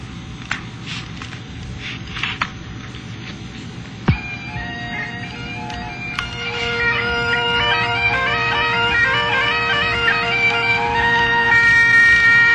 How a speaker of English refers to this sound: Well, of course, the bagpipes got me right back to Edinburgh, which is one of my favorite dreams.